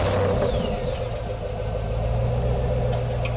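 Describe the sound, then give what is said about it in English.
A car engine revs and rumbles continuously, a loud, steady low drone with slight swells in pitch and no voices over it. “And if she's off at 11, yeah, be outside with your lights out and the engine revving.”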